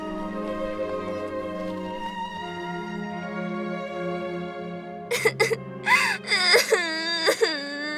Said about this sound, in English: A uniformed park attendant carried a little girl 4 or 5 years of age. He did his best to comfort the lost child crying out for her parents. Mommy! Daddy!